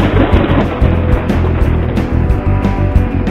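Heavy, rolling thunder from a lightning storm rumbles loudly and continuously, a deep booming roar with pulsing surges and no voices over it.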